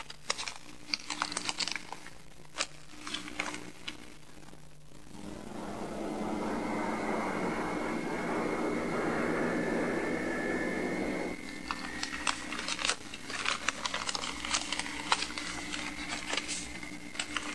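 A steady, whooshing engine drone of an airplane cabin swells in the middle, framed by bursts of crinkling and clicking handling noises as a gift is opened on the plane; no one speaks.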